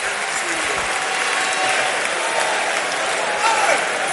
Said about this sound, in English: Clap for them, clap for them, clap for them, clap for them. Il faut acclamer.